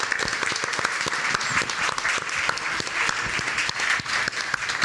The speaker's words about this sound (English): a massive round of applause. Thank you.